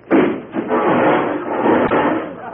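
A loud crash of wood giving way, splintering and clattering for a couple of seconds with a sharp crack near the end, as a man smashes straight through a wooden wall where he thought there was a door.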